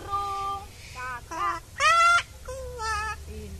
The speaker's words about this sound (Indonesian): Lagi. Ayo. Burung kakak tua. Lagi. Ayo lagi. Ayo, burung. Ayo. Burung.